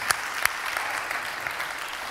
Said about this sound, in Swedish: Ja, ni får ge dem en applåd.